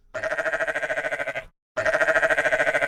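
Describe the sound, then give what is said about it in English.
A sheep bleats twice in long, wavering cries, each one loud and trembling with a rapid quiver, separated by a brief moment of silence. “That is sheep speak for, yes, save me too, please.”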